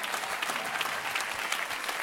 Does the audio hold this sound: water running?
no